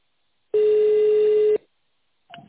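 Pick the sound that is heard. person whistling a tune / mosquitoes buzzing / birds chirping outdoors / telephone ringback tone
telephone ringback tone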